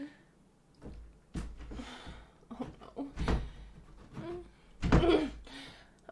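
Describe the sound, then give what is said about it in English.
Someone tries to open a locked door: several uneven rattles and thumps as the handle and door are pushed and pulled, with a louder jolt near the end and quiet pauses between. “So, the door is locked.”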